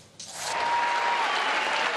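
A large crowd in Malmö bursts into loud, sustained applause with cheering mixed in, welcoming a singer on a smaller stage before the Eurovision Song Contest; a dense wash of clapping that swells quickly and holds steady throughout.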